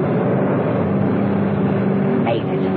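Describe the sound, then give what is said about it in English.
A car engine roars steadily, a dense mechanical drone throughout, with a brief rising-and-falling whine near the end as it revs and pulls away, the car swinging round and heading for the exit of a car park. “Mrs. Peel swung her car round and headed for the true exit of the car park”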